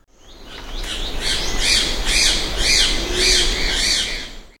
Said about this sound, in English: Afel perched upon a low bush, and when the child larks had settled beside him, he uttered a peculiar shrill whistle.